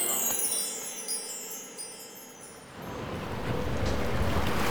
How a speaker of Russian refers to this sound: Ух, как задувает. Холодно. Доктор, да там же лед пополам с водой.